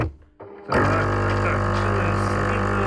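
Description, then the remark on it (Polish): A Jura espresso machine with push buttons, which has made several tens of thousands of coffees, kicks on after a brief quiet moment and runs with a loud, steady buzzing pump drone, continuous until the end. “Teraz po prostu zagłusza działanie ekspresu ciebie.”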